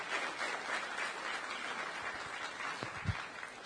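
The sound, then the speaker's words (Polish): Steady audience applause welcoming a lecturer and preacher, a dense crackle of many hands clapping that holds at an even level throughout, with a slightly stronger burst near the end. “Chciałbym, abyśmy bardzo serdecznie przywitali naszymi oklaskami wykładowcę wczorajszego Kasnodzieje,”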